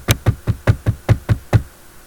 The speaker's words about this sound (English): I did this meekest little knock on the door.